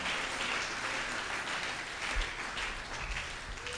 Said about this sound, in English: And I want you to clap for yourself. If it was not so, I won't tell you that. Oh, I want you to clap again for yourself.